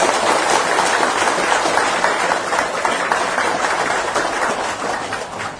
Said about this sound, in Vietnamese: Nếu các quý bà con cô bác thấy rõ là trong đời người của tôi có thể tối thiểu mỗi tuần làm được một việc dễ thương bằng tấm lòng, bằng lời nói, bằng việc làm cụ thể, thì xin quý vị hãy dành một tràng vỗ tay thật lớn để cảm giác.